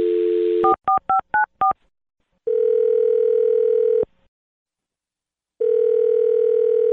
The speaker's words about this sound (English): All right, well, I'm going to dial her phone number right now and see if we can figure out why she's not calling you back, okay?